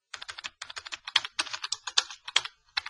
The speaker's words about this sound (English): OK, I'm typing that in. Digital photography.